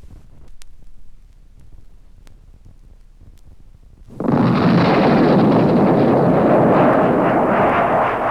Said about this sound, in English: An Air Force jet splits the German sky with the sound of combat readiness.